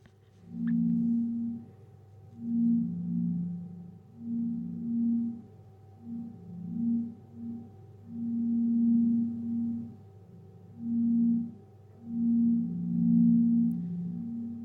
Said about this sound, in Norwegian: Men det vi hører her da, vi hører noen sånne sinustoner, vi kan høre litt på dem.